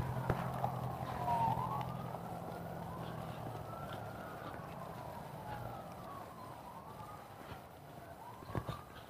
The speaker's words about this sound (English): Mini siren, not good.